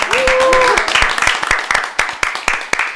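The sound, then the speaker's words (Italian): Studio audience applause for a poet after a poem is read, a dense burst of many hands clapping that thins into scattered, sharper claps, with a short rising whistle at the start. “Possiamo fare un applauso al poeta?”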